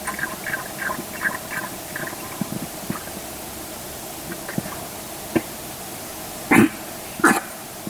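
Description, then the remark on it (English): A dog drinking water makes two loud, harsh choking hacks close together near the end, after a stretch of faint, repeated squeaky whimpers and small clicks over a quiet background. “I think that dog choking may have just scared everybody half to death.”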